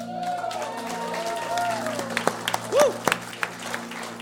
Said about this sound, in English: It's praise and worship time. I want to read to you from Psalm 47, and here's what the Lord says to us. Clap your hands, all you peoples, and shout to God with a voice of triumph.